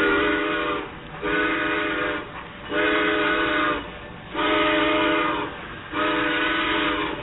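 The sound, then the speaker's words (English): A train whistle sounds in four long, loud blasts with brief gaps between them as a train headed north pulls out, its steady multi-tone chord ringing out clearly with no one talking. “Hurry up, Frosty. The train is pulling out.”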